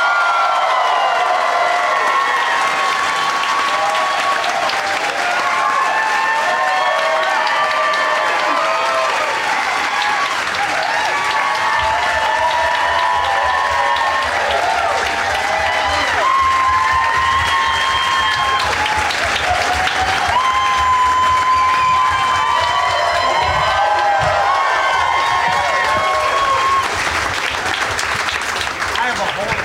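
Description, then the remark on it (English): An audience welcoming guests Josh Wolf, Justin Thompson and Jeff Tate gives loud, sustained applause that fills the whole stretch, a dense wash of clapping topped by scattered cheers, whoops and shouting voices that rise and fall without letting up. “Please give a big warm welcome to Josh Wolf, Justin Thompson, and Jeff Tate.”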